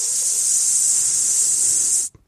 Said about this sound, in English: At the same time, a faint hissing sound became audible.